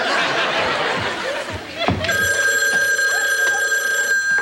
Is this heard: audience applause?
no